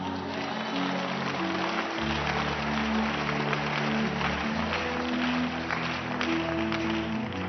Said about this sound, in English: Maybe we can just stop clapping so we can travel.